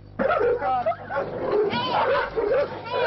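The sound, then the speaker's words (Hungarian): Many dogs at an overcrowded site holding an estimated 150-180 dogs bark and whine continuously, a dense overlapping chorus of yips and whimpering calls, loud, with no clear pauses throughout. “Abban maradtunk, hogy a mostani igen zsúfolt 150-180 között becsülöm az eblétszámot, ez csökkenni fog a három telephelyen összesen 50-re. A másik helyen felügyelő sincs a kutyák mellett.”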